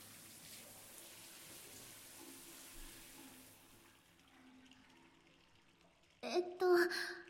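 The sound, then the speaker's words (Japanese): A steady, hissing stream of water pours for a few seconds, rinsing soap suds off a person's body after scrubbing, then fades away. A short burst of speech follows near the end. “じゃあ泡を流しちゃうね。”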